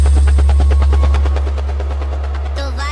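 A helicopter rotor sound effect chops in a rapid, steady beat over a heavy low rumble, loud, easing slightly before a brief swirl of noise at the end.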